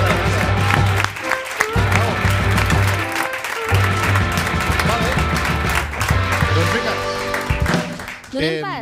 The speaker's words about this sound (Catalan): Sí, sí, un aplaudiment per